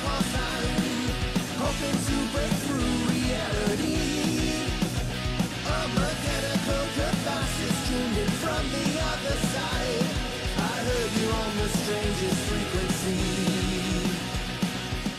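A loud, dense rock song plays steadily throughout, with distorted guitars and drums filling the mix under a strained, shouting lead vocal.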